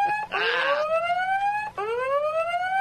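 A loud electronic alarm whoops twice, each tone sweeping upward in pitch with a brief gap between, the first accompanied by a burst of noisy static. No one speaks.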